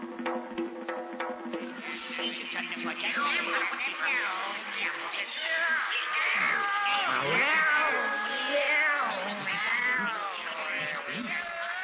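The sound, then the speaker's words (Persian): A group of cats meowing and yowling over one another in a continuous, fairly loud chorus, their rising and falling cries overlapping throughout with no clear pauses. “آقایان گربه ها ساکت باشند، سر و صدا نکنند”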